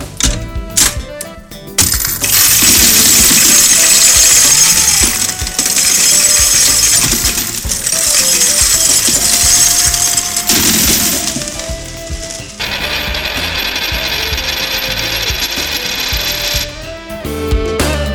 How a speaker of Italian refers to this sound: Prima rubrica e primo versamento di monete all'interno del nostro scrigno